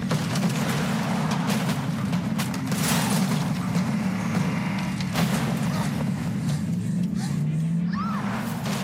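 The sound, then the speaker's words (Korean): Loud, continuous engine roar dominates a car chase scene from a film, with whooshing passes, scattered impacts and bursts, plus a brief tire-like squeal near the end, all without any talking. “이들의 거친 격투와 쫓고 쫓기는 자동차 추격전.”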